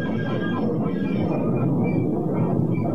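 A loud, steady low rumble of a train rolling past, with a broad roaring hum and faint higher tonal whines, continuous for the whole stretch with no voices.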